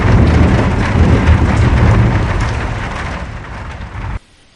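A heavy downpour roars steadily while a deep rumble of thunder rolls underneath, loud enough to rattle clay pots and jugs on a wall niche. It slowly fades before cutting off abruptly near the end.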